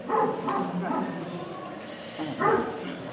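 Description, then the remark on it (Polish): A dog that has been let loose barks several times in short bursts, with a pause before a final bark; faint voices murmur in the background. “Tak, co żeście psa spuścili?”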